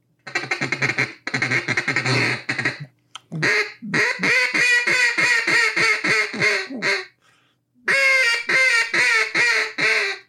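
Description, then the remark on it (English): A duck call imitates a mallard hen's quacking, loud, in rapid descending strings of raspy quacks separated by short pauses, with no talking. “I mean, that's a mallard hen is what that is.”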